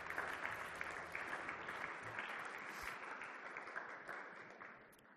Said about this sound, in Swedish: Tack ska ni ha lovsångare. Jag tycker ni ska ge lovsångarna en applåd.